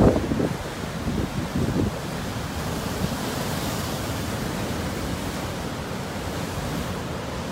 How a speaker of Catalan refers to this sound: I és que el Baix Empordà ha estat tot aquest cap de setmana en situació de perill molt alt pel temporal de mar. Hem escoltat aquí una mica d'onades que vam poder captar al llarg d'aquest cap de setmana aquí al Baix Empordà.